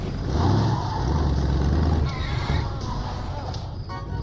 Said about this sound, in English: The pickup truck backs up.